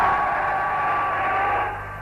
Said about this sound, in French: Cette clameur que vous entendez, c'est celle de cette foule évaluée à plusieurs dizaines de milliers de personnes qui vient de s'élever au moment où apparaît le président Senghor sur une terrasse de son palais